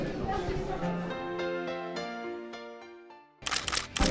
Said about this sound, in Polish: Migawka.